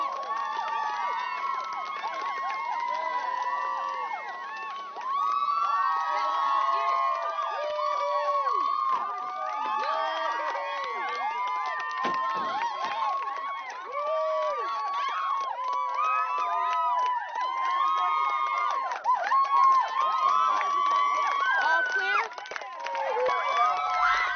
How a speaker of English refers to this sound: Step out of the car right now. And the crowd is going nuts. This is absolutely amazing. The crowd is loving him.